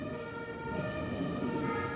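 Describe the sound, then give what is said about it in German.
An emergency vehicle's two-tone siren wails steadily, its sustained tones layered over a low rumble of traffic, with no one speaking. “Wenn wir gerade hier die Martinshörner hören, kamen die auch öfters bei euch vorbei?”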